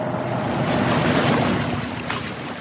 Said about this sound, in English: And as the water meets the shoreline, major brownfield cleanup is underway, restoring prime waterfront land in the Queen City.